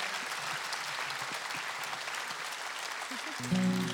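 Steady clapping from an audience, a dense, even patter of many hands at moderate loudness, with a low tonal hum entering near the end.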